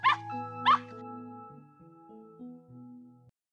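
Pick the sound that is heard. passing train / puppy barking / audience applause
puppy barking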